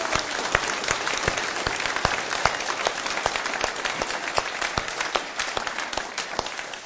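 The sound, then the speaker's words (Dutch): Sustained audience applause at a church service after sung songs, a dense wash of many hands clapping at a steady level with sharper individual claps popping through, continuing for several seconds without speech. “Ik zou zeggen, geef nog even een groot applaus voor”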